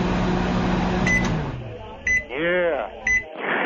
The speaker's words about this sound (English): You got a guy putting Menudo into a microwave and then you're spitting it out into a sink. You're telling people that you want... What is that? I'm heating up some of that Menudo. It's not bad.